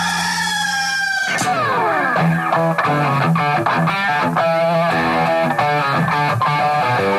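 A rooster crows loudly at the start, a single drawn-out call that glides downward before a burst of loud, distorted music takes over. No one speaks.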